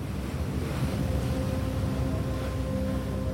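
Steady wind and rushing sea water on board a truck ferry crossing the Black Sea from Bulgaria to Georgia, with a constant low engine drone and hum running underneath, loud and unbroken throughout, no voices.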